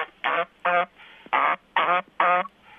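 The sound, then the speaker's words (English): Geese honking, heard over a phone held out of a window during a radio call-in: five loud, nasal, harsh calls in a steady rhythm, each short and evenly spaced, with a faint murmur of background noise between them and no talking. “Can you hold your phone out the window so I can hear your animals there?”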